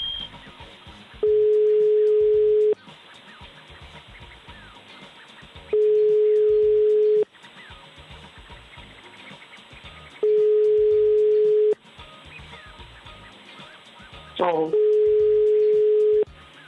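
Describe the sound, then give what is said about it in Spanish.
A steady, single-pitched ringback tone on an outgoing phone call placed live on air sounds four times, each buzz about a second and a half long with regular pauses between, over faint background murmur. “Estamos ahí llamando ya. Mira, a ver si da tono.”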